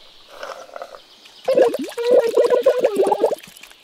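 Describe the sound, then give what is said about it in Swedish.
Wet, gurgling slurps of a milkshake through a straw, a soft bubbly start followed by a louder burst of rapid, sputtering sucking noises that rattle on for about two seconds before stopping. “Milkshake! Det kan man sörpla i sig med sugrör.”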